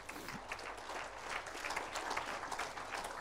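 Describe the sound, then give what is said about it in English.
A crowd claps steadily to give glory to God, dense overlapping hand claps forming a continuous wash of applause at a fairly constant moderate level for a few seconds, with no clear talking over it. “Clap your hands.”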